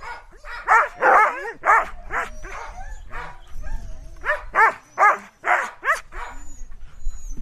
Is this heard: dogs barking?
yes